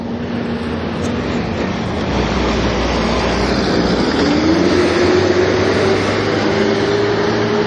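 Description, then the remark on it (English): A garbage truck rumbles outside, its heavy engine roaring steadily while a whining tone climbs in pitch partway through, like a motor revving or hydraulics straining. No voices. “Garbage truck.”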